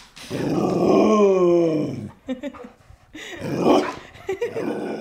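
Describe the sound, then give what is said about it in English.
A large 90-pound Border Collie Great Pyrenees mix dog grumbles in two drawn-out, groaning vocalizations, the first long and sustained, the second shorter after a brief pause, with a few soft snorts between. “a 90-pound Border Collie Great Pyrenees mix”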